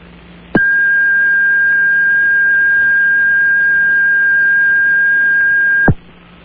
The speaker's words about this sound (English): Please leave a message after the beep.